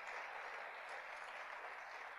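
Sustained applause from a church audience, given to glorify God during a Spanish-language sermon: a dense steady wash of many hands clapping at an even loudness throughout, with no voices standing out.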